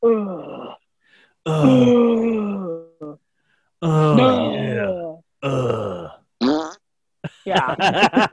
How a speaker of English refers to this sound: Like, I didn't imagine that part. Like, he... Oh, no, he's totally farted. He totally farted.